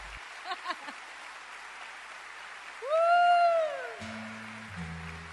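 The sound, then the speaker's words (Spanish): Steady audience applause fills the whole clip during a live Radio Nacional concert broadcast from the concert hall of the Sala Sinfónica. It is a dense crackling wash of clapping. Midway, a loud gliding tone rises and falls over it for about a second, followed by low sustained notes. “Porque este súper aplauso se escucha en directo, ahora mismo estamos en directo en formato de programa de radio y saliendo en directo por la Folclórica, por Radio Nacional Folclórica FM 98.7, así que todo lo que aplaudan, griten, se va a escuchar”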